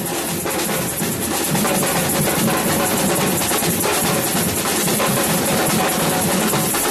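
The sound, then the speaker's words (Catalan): A batucada percussion group drums loudly and continuously, with dense, rapid beats of drums layered over a steady rhythmic pulse, no voices heard; played to evoke the Seva Foc festival. “Clar, i ara, doncs, amb aquest so que ens han posat els tècnics, aquesta batucada que ja ens posa una mica en l'esperit del Seva Foc,”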